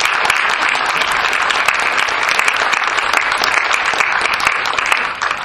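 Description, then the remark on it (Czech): Sustained applause from an audience as children come up to receive diplomas, a dense, steady clatter of many hands clapping at once, loud and continuous throughout with no voices breaking through. “Ano, potlesk.”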